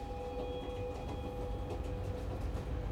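A train on a 14-hour overnight journey rolls steadily along the rails with a constant deep rumble, faint rhythmic clatter and a few thin, sustained metallic whines above it. No one speaks.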